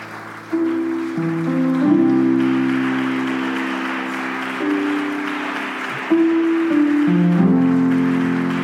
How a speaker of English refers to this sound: And why don't we clap our hands to the Lord?